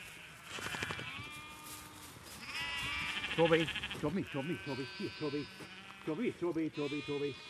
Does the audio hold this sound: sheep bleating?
yes